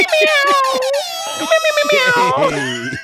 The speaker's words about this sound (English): She really hates that air horn. I hate that.